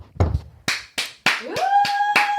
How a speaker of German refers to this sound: ich brauche einen Applaus und... Warte.